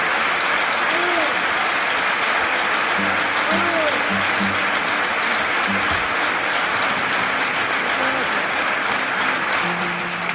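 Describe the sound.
Sustained audience applause for a carnival paso doble song, a dense, steady wash of clapping at constant loudness throughout, with faint voices and low tonal murmurs underneath.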